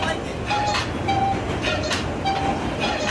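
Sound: new York subway train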